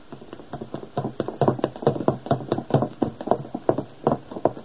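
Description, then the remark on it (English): Hurried footsteps of a man thud down a staircase in a quick, fairly steady run of dull knocks, around a dozen or more, with no voices. “I can hear him going downstairs.”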